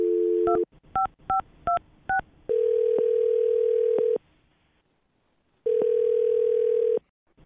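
A short dial tone, then a quick series of five touch-tone keypresses as a woman's phone number is dialed, followed by two long electronic ringing tones separated by a pause, clear as if heard through a phone line.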